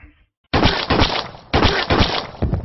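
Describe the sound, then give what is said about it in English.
A door lock breaking open in a series of loud, harsh crashing bursts, about four heavy impacts in quick succession after a brief silence, with splintering, rattling noise between them. “The door's lock finally gave.”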